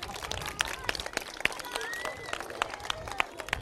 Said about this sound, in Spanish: Le podéis aplaudir también.